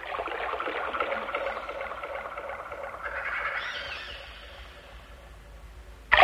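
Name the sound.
flowing water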